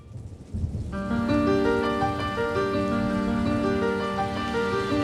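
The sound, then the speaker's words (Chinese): Steady rain hisses alone for a moment as a light rain turns into a downpour on an island, then sustained musical tones swell in and carry on over the continuous patter of the downpour, with no one speaking. “淅沥沥，淅沥沥，天空开始下雨，没一会儿小雨变成倾盆大雨”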